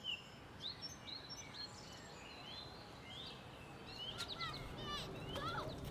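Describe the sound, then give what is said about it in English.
Birds chirp and whistle outdoors, with several short, bright calls scattered throughout and a busier flurry of tweets near the end, all over a soft, steady background hush. “Mostly, it is very quiet, except for the birds.”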